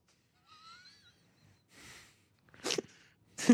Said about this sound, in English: What a demure sneeze you have for such a large, tall man. There's different levels. Sometimes I'm really loud.